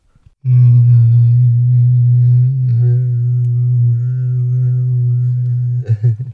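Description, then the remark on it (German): A single low, steady hummed note resonates inside the hole of a hollow humming rock (Summfelsen) on a hiking trail, with a head put into the hole. The note is rich with overtones and held loudly for about five seconds before breaking off with a few short wavering sounds. “Und da soll man einen Kopf einstecken und dann soll es summen drinnen.”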